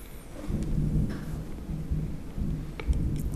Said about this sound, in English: A little thunder. That's KJ. It was a stormy time.